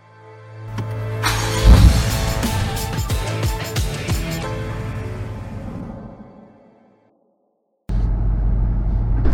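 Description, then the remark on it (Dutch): A car's low engine drone and road rumble, with clunks and whooshing passes, fading to brief silence before the steady interior rumble resumes. “Leuk dat je in de auto komt.”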